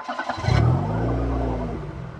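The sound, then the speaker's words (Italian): A car engine cranks briefly as the driver sets off for school, catches with a loud roar, then settles into a steady idle hum. Its pitch rises and dips slightly as it revs. No voices. “Adesso salto in macchina e vado a scuola.”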